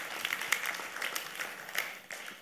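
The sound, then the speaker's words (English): A crowd applauds for a small dollar gift a man gave the speaker, a steady wash of many overlapping hand claps, moderately loud and sustained for a couple of seconds before easing off slightly at the end. “Clap for the small dollar he gave me.”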